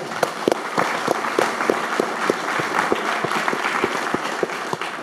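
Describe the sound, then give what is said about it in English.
An audience of self-directed investors, customers of Fidelity, applauds steadily, many hands clapping at once in a dense, sustained wash of sound with a few sharper claps standing out, loud and continuous throughout. “First of all, give yourselves a round of applause.”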